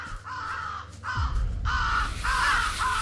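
Harsh raven caws in a video game, where the ravens have joined forces with the zombies, repeat in a quick series of four or five loud, rasping calls, with a low rumbling game background swelling underneath partway through.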